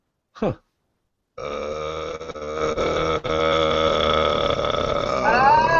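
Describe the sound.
A short sliding vocal sound, then a long, loud, low-pitched creaking voice in vocal fry, rattling and croaking steadily for several seconds with no words spoken.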